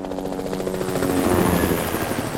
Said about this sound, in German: Viele Hubschrauber fliegen in dieser Woche über unsere Köpfe. Das hat auch einen guten Grund. Der Nachwuchs lernt zu fliegen. Die Polizei bildet ihre künftigen Pilotinnen und Piloten aus, die dann zusammen in Formation über deutsche Städte fliegen.